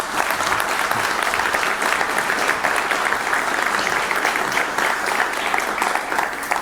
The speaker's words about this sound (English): Please welcome with a very warm applause for my 2025 Linux and Go self-hosting stack